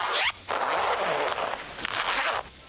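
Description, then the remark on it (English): A pencil case zipper is pulled open in two raspy strokes, a short zip followed by a longer drawn-out one, with no talking. “It is indeed a pencil case.”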